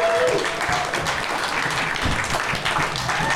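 A crowd applauds steadily and loudly to welcome two guests on a show, dense clapping filling the whole stretch with a few faint voices mixed in underneath.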